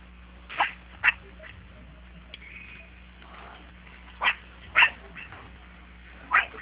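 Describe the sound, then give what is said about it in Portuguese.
A large dog barks in short, loud bursts: a quick pair, a long pause with a faint whine, another pair, then one final bark. The sound is somewhat muffled and lo-fi. “Esse cão gigante aí.”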